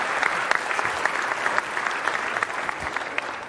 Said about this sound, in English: Let's give this family just a round of applause. Thank you. Thank you so much.